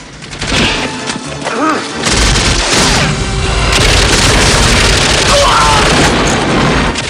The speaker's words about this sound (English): Rambo leaps across fire and joins Musa by the truck as explosions rock the compound.